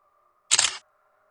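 A single crisp shutter click from a mobile phone camera as its shutter button is pressed, short, snapping out over a faint steady background hum with nothing else around it.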